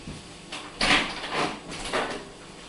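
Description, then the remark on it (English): A door is handled, with a short series of four scraping, rattling clunks spread over a couple of seconds, moderately loud with no talking. “sorry, one second, I locked the door. My wife went shopping.”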